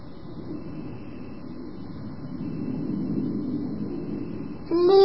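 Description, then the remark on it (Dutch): An airplane drones overhead in a low, steady rumble that swells slightly midway, then a short voice cuts in right at the end. “Vliegtuig. Ja. Vliegtuig.”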